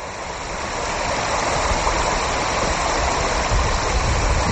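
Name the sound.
flowing river water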